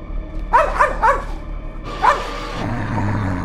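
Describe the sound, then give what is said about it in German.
A dog wearing a smartphone on its collar as a watchdog lets out a quick run of three sharp barks, pauses, then gives one more loud bark, over a constant low background rumble. “Mit der App machen wir dich zum Wachhund.”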